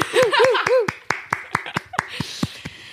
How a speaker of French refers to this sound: J'essaie de faire un applaudissement dans un micro, c'est nul.